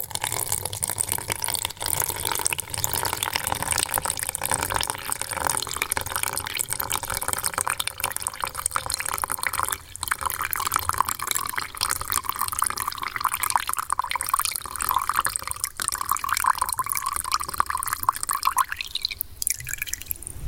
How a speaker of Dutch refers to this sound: Ik heb nog een fles water gevonden, dus ik ga een beetje water in een potje doen en zien of dat iets van lawaai geeft.